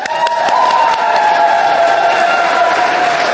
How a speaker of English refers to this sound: My loves, I would like you to give a huge round of applause for our next guest speaker